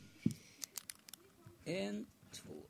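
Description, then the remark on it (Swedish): A pen held in the right hand scratches across paper in a handful of quick, short strokes, followed by a brief voiced murmur and a faint scrape at the end. “Men jag har en penna i höger hand och micken i vänster och ska skriva.”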